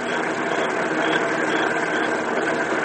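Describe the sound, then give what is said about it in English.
A car's engine hums and rattles steadily for a few seconds as it approaches in the dark, a loud, dense mechanical noise that holds an even level throughout, with no voices. “Hey, here comes a car.”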